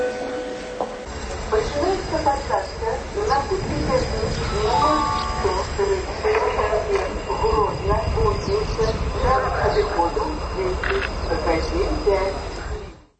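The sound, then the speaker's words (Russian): A public-address voice booms through a busy railway station, announcing boarding for the train to Kuźnica over a steady wash of crowd noise and low rumbling, continuous for the whole stretch. “А тим часом обвішають посадку на тягнік до кузниці.”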